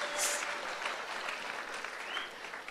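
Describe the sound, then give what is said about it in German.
Steady audience applause fills the whole stretch, a dense crackle of many hands clapping, with no voices rising above it. “Und das Problem wird sein, für diejenigen, die jetzt geklatscht haben, du wirst irgendwann an einer Arbeitsstelle stehen, wo du sagst, oh Mann, hätte ich mir damals bloß nicht geklatscht, sondern hätte es lieber gelernt.”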